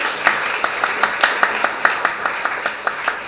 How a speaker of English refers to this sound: So give her a round of applause. Well done.